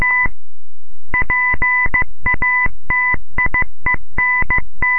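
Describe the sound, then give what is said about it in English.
Loud, steady electronic telegraph beeps tapped out in a quick rhythm of short and longer tones, Morse code dots and dashes, with brief gaps between them and no voices. “Inventor Samuel Morse gives his first public demonstration of the telegraph, dots, dashes, and all, in Morristown, New Jersey.”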